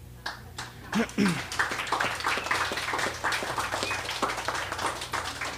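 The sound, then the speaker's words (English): An audience breaks into applause after a reading of two poems, one of them Polish, many hands clapping in a dense, steady patter that holds at a moderate volume for several seconds with faint murmurs underneath. “Now, was that applause for both poems or was it for the Polish poem?”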